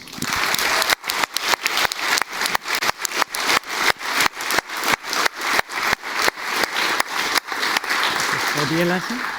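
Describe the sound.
Dense, steady audience applause for the event's video team fills the whole stretch, sounding choppy as it is interrupted by regular brief dropouts, with a faint voice emerging right at the end.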